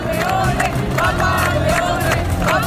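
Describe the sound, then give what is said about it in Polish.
A large crowd gathered in St. Peter's Square in the Vatican chants loudly and steadily after the new pope's words, voices rising in rhythmic bursts roughly every half second, a dense continuous roar with no single speaker. “Pokorny i wytrwały, podkreślał nowy papież, a tłum zgromadzony tutaj w Watykanie głośno skandował.”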